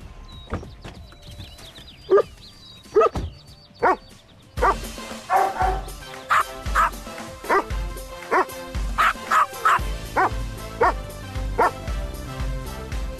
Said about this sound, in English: scored high marks with dog lovers, watching the two-night broadcast with a customized That's Not a Buick commercial featuring a variety of furry four-legged actors all woofing, with subtitles, of course, about the all-new Buick Enclave.